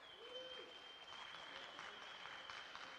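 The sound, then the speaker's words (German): Sustained applause from an audience for three podcasters at an early-morning live event, a dense wash of clapping that holds steady for several seconds, with a faint whistle-like tone running through it and a brief voice near the start. “Können wir mal einen großen Applaus für die drei Podcaster haben? Ganz großen Applaus bitte.”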